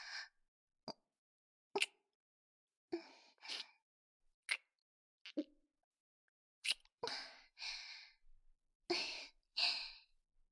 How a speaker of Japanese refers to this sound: 本当にキスしちゃったわね。でも少し優しすぎるんじゃないかしら。もっと強引な激しいものを想像していたのだけれど。